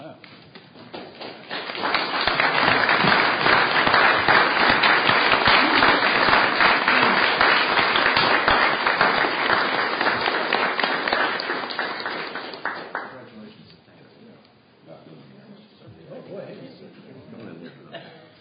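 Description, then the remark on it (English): A crowd breaks into loud, sustained applause for an employee honored as a customer service hero and presented with a citation. The applause builds quickly, holds steady for around ten seconds, then tapers off into scattered claps and murmuring voices. “One more round of applause for Frank and his hard work.”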